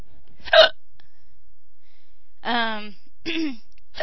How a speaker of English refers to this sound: I got these hiccups from pizza. Not good pizza. Not like Pizza Hut or, you know, something good. These are from that cheap Tostino's pizza